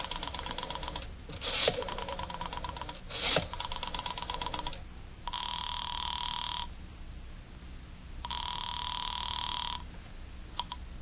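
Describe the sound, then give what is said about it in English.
A telephone is dialed with a rapid run of clicks and clunks, then a phone rings twice in long, buzzing bursts with a pause between them. No one speaks. “knowing how foolish it was, knowing it, went to the phone and dialed.”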